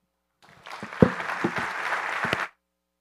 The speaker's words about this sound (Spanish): Y eso dice muchísimo del trabajo de sus pastores. Y yo en esta mañana quisiera darles un fuerte aplauso.